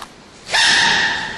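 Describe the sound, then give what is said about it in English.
After a brief quiet moment, a baby panda lets out one sudden, loud, squeaky sneeze, its high, nasal tone ringing out before slowly fading. “it sounded kind of like the panda sneezing clip on YouTube”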